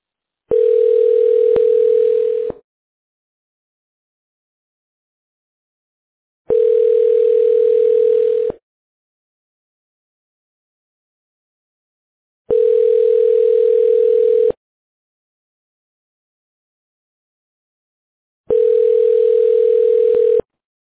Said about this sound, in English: Your call is now being connected. You will hear ringing while your call connects.